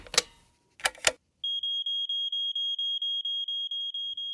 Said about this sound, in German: Uiuiuiui, jetzt hast du irgendeinen Alarm ausgelöst. Das hat wahrscheinlich mit der Sprinkleranlage zu tun, die du vorhin angemacht hast, aus Versehen.